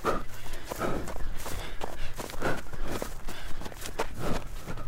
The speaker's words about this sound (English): You're just hearing your footsteps, and that's it.